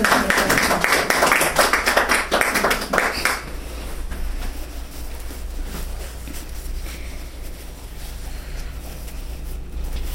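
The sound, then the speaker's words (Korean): A burst of audience applause, dense overlapping claps, fairly loud for about three seconds before fading quickly into a low steady hum with no talking. “격려로 박수를 해주세요.”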